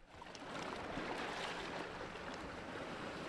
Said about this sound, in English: On a clear August day, small waves lap the coastline at Odeon State Park in Rye, New Hampshire. This tranquil scene belies the ecological and evolutionary bustle going on below the surface.